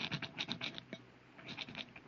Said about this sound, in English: Oh, wait a minute, darling. What are you doing with that rock? I want to scratch something on the outside of this lead door.